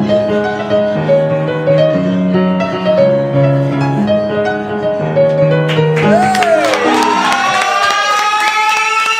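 A bright stepping musical jingle plays for several seconds, then a burst of crowd cheering and clapping breaks in over it, with rising whistle-like tones sweeping upward to the end.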